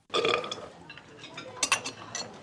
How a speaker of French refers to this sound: Pas du genre qui rote, toi.